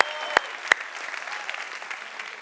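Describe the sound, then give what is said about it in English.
A church audience claps steadily to celebrate a record week of more than 800 people in small groups, a dense wash of many hands with a few sharp, louder claps standing out near the start. “Come on, give your church a big round of applause right there.”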